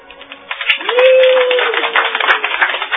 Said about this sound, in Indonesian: Tepuk tangan riuh kembali membahana, bagaikan memecah selaput telinga.